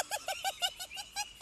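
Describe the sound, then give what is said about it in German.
A crow cackles in a quick, laughter-like run of about eight harsh, nasal caws, evenly spaced, with no talking around it. “Sie lacht, die liebe Krähe.”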